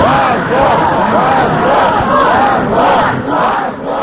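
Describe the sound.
A loud crowd at a spontaneous rally in support of Khodorkovsky and Lebedev chants slogans together in repeated rhythmic bursts, shouting "Shame", many voices in unison over a dense, continuous roar of noise.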